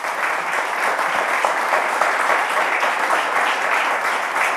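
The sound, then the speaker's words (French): An audience at the race headquarters (PC Course) in the Tour Montparnasse applauds skipper Jérémy Bayou steadily, a dense, even patter of many hands clapping at full volume throughout, with no voices breaking through. “Vous pouvez l'applaudir, mesdames, messieurs.”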